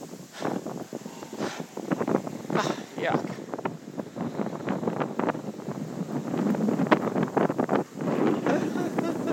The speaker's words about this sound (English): Whoa, seriously windy. A lot of debris in the air.